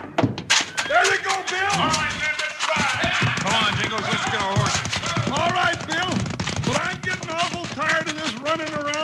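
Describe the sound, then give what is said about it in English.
Horses gallop hard with a rapid, steady clatter of hooves, loud, while excited voices shout over the pounding throughout; bandits fleeing a bank robbery on horseback, chased by riders. “the bandits broke for the street and their horses, with Bill and Jingles right behind them”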